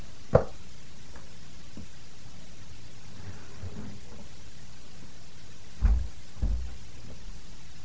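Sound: door being closed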